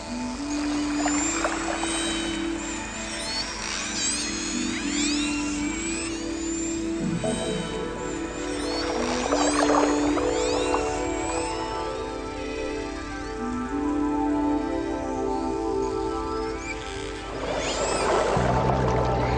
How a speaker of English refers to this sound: Killer whale sonar allows them to keep their prey under surveillance in any conditions, including darkness or murky water.